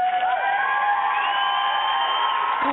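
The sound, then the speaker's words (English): A loud, heavily distorted applause sound effect, warped into a steady screechy whine with crowd-like noise underneath, running continuously for about three seconds before cutting off abruptly. “That was not cat screeching. That was supposed to be applause.”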